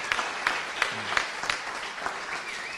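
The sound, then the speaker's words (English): A crowd at a panel event claps steadily for a few seconds, applauding themselves, a dense patter of hands with a few sharper claps standing out, at an even, sustained level. “But please give yourselves a round of applause for enduring this.”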